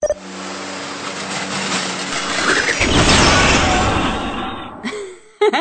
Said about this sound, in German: Mein Roboter hingegen, ein wahres Meisterwerk. Ich zeig's dir. Ein Knopfdruck und mein Blitz und Blank 3000 fängt an zu putzen.